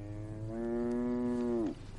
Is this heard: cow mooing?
yes